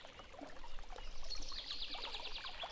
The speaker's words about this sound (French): Vous arrivez sur le rivage. Devant vous s'étale une rivière qui elle aussi semble reprendre vie.